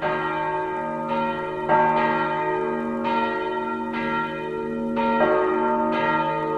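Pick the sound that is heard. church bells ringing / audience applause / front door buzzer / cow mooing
church bells ringing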